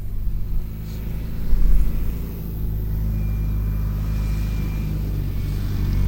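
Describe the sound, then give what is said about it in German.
A farmer's tractor rumbles slowly along a paved farm track toward a field, its low engine drone steady and throaty, with a brief swell in loudness partway through and no voices. “Ein Bauer fährt mit seinem Traktor gemächlich über den geteerten Feldweg zu einem Acker.”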